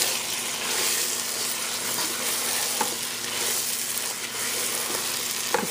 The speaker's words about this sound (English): And now we're just going to mix the peanut mixture with the chicken.